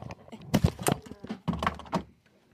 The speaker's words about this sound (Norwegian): Blir banket på igjen.